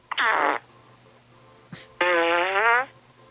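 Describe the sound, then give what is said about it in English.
Two loud, buzzy fart sounds from a man, heard over the phone, a short one followed by a longer, wavering blast after a brief pause, with no talking. “A man picked up the phone, and he blew fart gas at me on the phone.”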